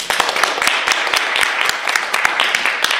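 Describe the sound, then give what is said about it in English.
An audience at a library event applauds steadily as author Bruce Coville is welcomed, many overlapping hand claps forming a dense, crackling wash with sharp individual claps poking through, no voices over it. “I love when people clap before I start.”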